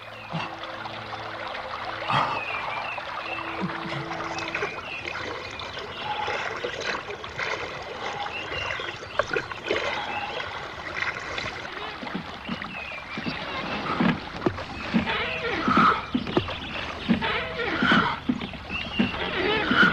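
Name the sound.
flowing river water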